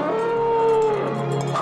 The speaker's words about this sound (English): I'm hearing it now. That singing sounds like a ghost.